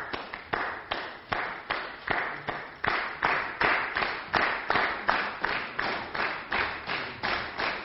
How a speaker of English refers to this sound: Brilliant, let's give them some applause, yes?